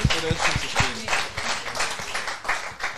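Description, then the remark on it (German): An audience applauds steadily for three seconds, a dense crackle of many hands clapping at once, with a few low murmurs and shouts mixed in beneath the clapping. “Ja, dann ist es nochmal dein Applaus, ne?”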